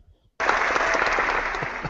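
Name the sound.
applause sound effect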